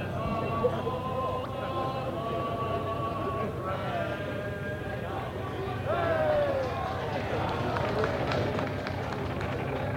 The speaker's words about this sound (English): Police and their police cars are starting to close in. You can hear the crowd singing a very well-known tune as the police cars seem to be coming closer and closer.